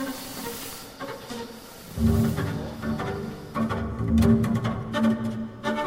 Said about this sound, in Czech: No, tady bude nějaký šubědí, slyšet taky, ne? Jo, trochu jo. Tady ty ventilátory, tady šupí.